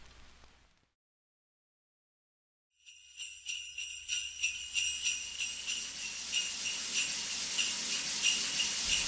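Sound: shower water running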